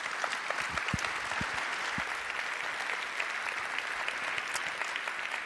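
A crowd applauds steadily to welcome the next speaker, a mission planner at the German Space Operations Center. It is a dense wash of many hands clapping at an even, sustained level for several seconds without pause or voices.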